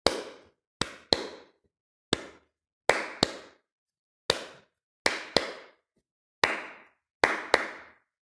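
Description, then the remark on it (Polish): Sharp hand claps ring out a short rhythm for a rhythmic echo exercise, around a dozen crisp claps grouped in pairs and singles with short pauses, clear with no talking. “Ja wyklaszczę krótki rytm, ty posłuchaj i zaraz spróbujemy wyklaskać go razem.”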